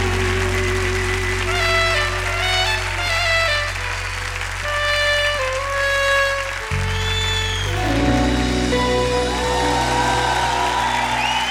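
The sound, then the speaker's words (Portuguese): An audience claps hands steadily and continuously in praise of Jesus, with scattered cheers, over sustained keyboard-like chords that shift in pitch partway through. “Vamos aplaudir o nosso Deus, Jesus, Senhor das nossas vidas, das nossas famílias.”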